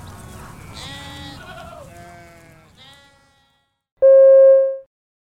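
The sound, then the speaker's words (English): Goats bleat in a wavering, overlapping chorus for about three seconds, then after a short silence a loud, steady electronic beep sounds once and stops. “Polly, feed the goats, please.”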